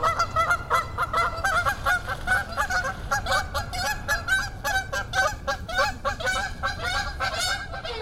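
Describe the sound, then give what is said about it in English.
A flock of geese honks continuously and loudly, many overlapping calls forming a dense, clamorous chorus, with low rumbling noise underneath and no one talking. “In just 10 weeks or so, the goslings will be making their first attempts at flying, and the adult geese will be sporting fresh new feathers for their big journey south in the fall.”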